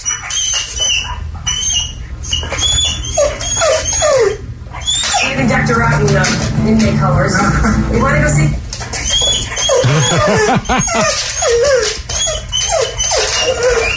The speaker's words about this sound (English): this guy did post a video of his whimpering dog who's in front of the TV